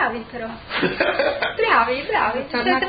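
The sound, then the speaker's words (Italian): A few rough coughs break out among voiced, laugh-like sounds and talking, forming short bursts over about three seconds. “Comunque, con le tosse che complimenti.”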